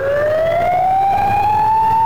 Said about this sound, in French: La sirène nous avertissait lorsqu'il y avait un incendie.